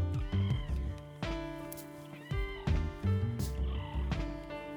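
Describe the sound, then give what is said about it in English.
Manatee vocalizations: a string of squeaky, whistle-like chirps and squeals with a rich harmonic tone, several calls following one another over a few seconds with no talking. “Can we turn that up to hear the voice of the manatee?”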